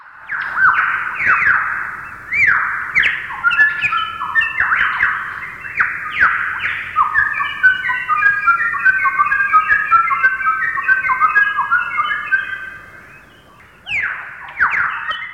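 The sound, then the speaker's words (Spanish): Lyrebird song with a flute-like timbre, recorded by researchers in the 1970s: loud, clear whistled phrases of sliding notes, fragments of the flute tune 'la danza del mosquito', repeat in quick succession, pause briefly near the end, then resume. No one speaks. “sus canciones y el timbre tipo flauta se extendieron por toda la población local de aves lira.”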